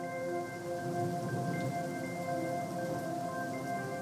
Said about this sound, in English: Until you find yourself standing outside in the middle of the unforgiving desert summer, drenched in rain. For some, the summer storms are a welcome reprieve from the heat.